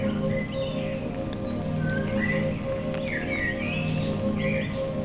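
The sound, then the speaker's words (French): Several birds sing in short, high, sweeping chirps and whistles, repeating every second or so, in a forest massif lost in mist on a gloomy day, over a steady low background wash with faint patters of light rain drops. “Pour notre carte postale sonore, je vous amène vers son nord du Cagir avec pour seule compagnie le chant des oiseaux, le chemin qui s'élève dans la brume.”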